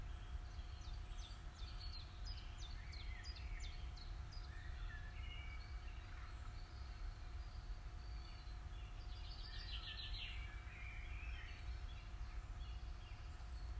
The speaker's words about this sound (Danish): Og fuglene registrerer du, da de danner deres helt eget orkester. Måske kan du også høre, når de pusler rundt i skovbunden.